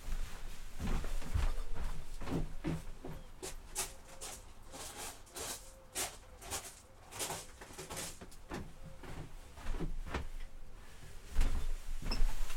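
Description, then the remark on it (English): Crunching footsteps on gravel outside a shed, a series of uneven, gritty steps at a steady walking pace, with faint background noise and no talking. “If I put my headphones down and walk over to the door, open the curtains, you might hear bottles in the corner of the shed rattle as I walk across its wobbly floor, and I wonder if you can hear the gravel outside.”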